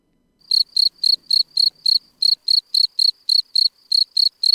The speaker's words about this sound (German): Das Zirpen der Feldgrille ist reine Männersache. Wenn sich das Männchen paaren will, intensiviert es dieses Zirpen.